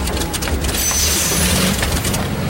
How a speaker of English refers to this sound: What's that noise? It sounds like an engine failing. That would be your engine failing. Usually a sure sign that we're going down.